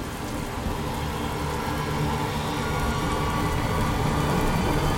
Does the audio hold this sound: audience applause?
no